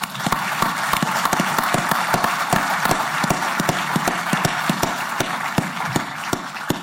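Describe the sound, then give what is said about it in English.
A crowd applauds steadily for several seconds to welcome Aaron as a new New York Jets player, a dense wash of overlapping claps with some sharper individual hand claps standing out, fairly loud, with no one speaking. “I'd just like to have a round of applause right there.”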